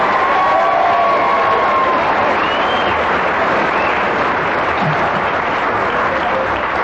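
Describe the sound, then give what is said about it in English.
A live audience breaks into loud, sustained applause mixed with cheering and a few whistles, a dense wash of clapping that holds steady for several seconds. “I hope your cheer was for his deviation and hesitation and everything else which they let him get away with then, because that was a pretty saucy story.”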